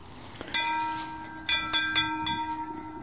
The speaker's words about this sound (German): Also natürlich völliger Quatsch, am Klang der Glocke den Landkreis zu erkennen. Das war Philosophenlatein.